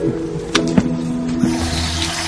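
Water runs steadily from a tap, as if filling a glass of water, with a couple of brief clinks and knocks over the continuous rushing stream. No one speaks.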